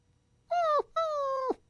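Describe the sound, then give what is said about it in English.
A dog, Santa's Little Helper, whimpers twice after being scolded and told to get out: a short high whine, then a longer drawn-out one, each sliding down in pitch at the end, clear against a quiet background with no talking. “But as for you, Santa's little helper, you are a selfish coward and a bad dog. Get out and stay out!”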